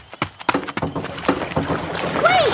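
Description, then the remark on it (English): Several quick hollow thumps as someone jumps into a small boat, followed by water sloshing and splashing against the hull, with a brief rising-and-falling squeak near the end. “I'm going to try to jump into the boat the same second she does.”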